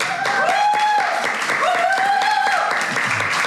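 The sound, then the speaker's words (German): Steady audience applause, a dense wash of many hands clapping throughout, with two drawn-out whooping cheers rising over the noise. “Da bin ich sehr stolz drauf und würde dir gerne einen Applaus dafür widmen.”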